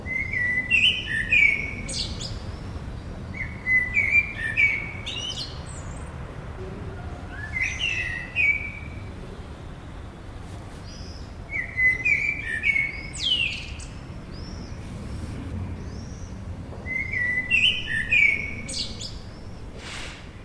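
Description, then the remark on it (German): A Eurasian blackbird sings on in a Zurich backyard on a mild evening after choir singers have left, fluting phrases each ending in a brief higher twitter, repeated about every four seconds against a low, steady background rumble in an otherwise quiet setting. “Nur die Amsel bleibt, auch wenn alle gegangen sind, sie singt noch lange.”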